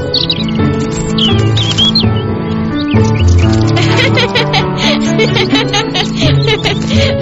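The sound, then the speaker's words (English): Birds chirp in quick, repeated tweets, clustered at first and then scattered busily through the rest, riding over a steady, fairly loud tonal backdrop that continues throughout. “Hello, birds.”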